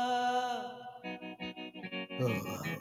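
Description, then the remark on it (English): Straight electric guitar drenched in heavy reverb: a sustained ringing note gives way to a rhythmic run of pulsing chords, then a brighter, fuller strum, all loud with no voices. “With that straight guitar with a lot of reverb.”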